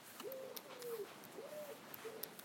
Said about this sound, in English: Hello, bird. Wood pigeon, or whatever you are. Collar dove.